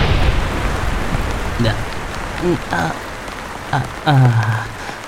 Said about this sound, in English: Rain. Out of nowhere.